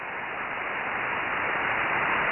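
Steady hiss of amateur radio static at S9 noise level fills the gap between transmissions, a dense, even rush of noise cut off sharply in the upper range, holding at constant loudness throughout with no voices.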